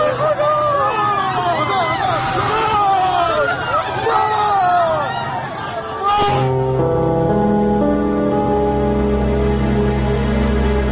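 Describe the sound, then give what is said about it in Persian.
A crowd of people wails in the street amid renewed gunshots, many overlapping voices crying out in rising and falling pitches, loud and dense for about six seconds before giving way to sustained, steady musical tones. “دوباره صدای شلیک می آید و صدای شیون مردم.”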